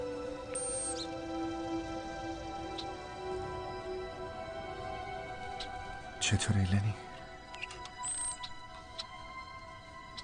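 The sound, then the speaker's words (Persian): A lark, a medium-sized, very social bird of the passerine family, gives a few short, high chirps, spaced several seconds apart, while a person talks; a brief clattering handling noise interrupts in the middle. “اون یه چکاوکه، از خانواده گنجشک سانن، پرنده با جثه متوسط، بسیار اجتماعی و بسیار زیبا.”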